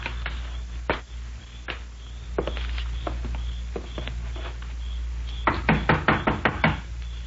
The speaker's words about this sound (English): Do we knock or just walk in? Well, let's try knocking. Come on up on the porch.